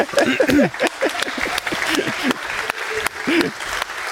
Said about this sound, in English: Yeah, so we have to thank our main partner, conference partner, B1 Systems. They immediately... Yeah, big applause!